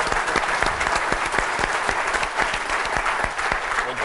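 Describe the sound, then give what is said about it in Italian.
Audience applause at a presentation, welcoming a design experience evangelist as he is introduced, fills the whole stretch: dense, steady clapping from many hands, with sharp individual claps popping out of the wash at a fairly even loudness, no voices over it. “Un applauso anche per Roberto.”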